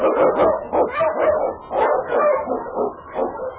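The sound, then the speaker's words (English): Husky sled dogs bark and yip excitedly in a loud, rapid, nearly continuous string of barks, with no talking, in the radio show Challenge of the Yukon. “The Wonder Dog King, swiftest and strongest of Eskimo League dogs, blazes the trail through storm and snow for Sergeant Preston as he meets the Challenge of the Yukon.”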